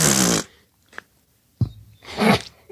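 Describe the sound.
Someone blows a few wet, buzzy raspberries imitating fart noises: a long hissing burst, a short blip, then a low, sputtering rasp and a final noisy blast.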